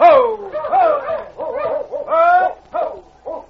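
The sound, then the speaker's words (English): A dog barks and whimpers in a rapid string of six or seven loud, high yelping cries, each sliding down in pitch, with brief gaps between them, on a dark night in Dawson as a strong wind rises and snow begins to fall. “You go on and try to get that dog back here.”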